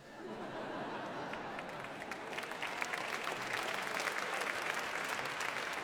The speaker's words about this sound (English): Very kind of you to clap. It takes up time.